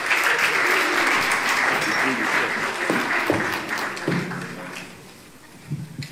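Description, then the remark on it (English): An audience applauds three readers as they come up, with a dense wash of clapping that holds steady for several seconds, then thins and fades out, leaving a few scattered claps near the end. “My readers, you can give them a round of applause as they come.”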